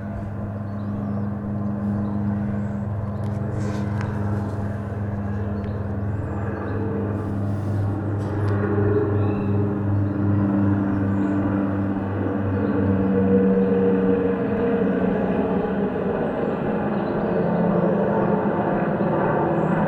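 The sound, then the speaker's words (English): A helicopter passes overhead over Seton Park, its steady low engine drone and rotor hum filling the whole stretch loudly, with a faint outdoor background and a few brief higher chirps partway through. “But you also, while you're out enjoying the surrounding, you get helicopter overflights like this.”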